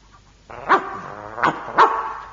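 A dog barks three times in quick, uneven succession, loud, with a steady tonal hum filling the background between barks.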